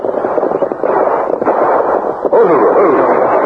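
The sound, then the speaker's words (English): Gunfire crackles in a dense, continuous volley from just over the ridge, about 2 miles from the Indian reservation in the Rainbow Hills, the shots blurring together into a muffled rattle with a few sharper bursts, heard with no voices. “Hear that gunfire, Tonto?”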